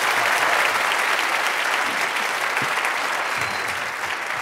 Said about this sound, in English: So please, one more round of applause from John Haidt, and then we're gonna get into it.